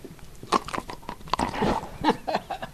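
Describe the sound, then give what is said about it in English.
A happy, retired dog crunches loudly on a treat given to him while visiting with museum visitors, a quick series of sharp, uneven bites and chewing over about three seconds, with no voices. “And then there is the sound of a happy, retired dog receiving a treat as he visits with museum visitors.”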